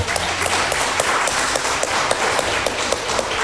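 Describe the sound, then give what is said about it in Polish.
An audience applauds steadily, many hands clapping in a dense, even patter of crisp claps that holds at a fairly loud level throughout, with no one speaking. “Brawa.”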